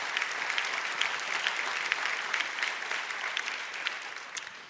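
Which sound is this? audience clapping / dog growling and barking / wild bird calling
audience clapping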